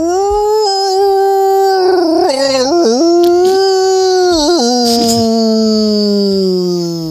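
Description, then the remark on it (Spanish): A man, a screenwriter, imitates a long, loud dog or wolf howl, one sustained wavering cry lasting several seconds, with a few quick breaks in the middle before it slowly fades. “¡Era guionista! De hecho, te puedo decir hasta qué guionista ha sido, yo creo.”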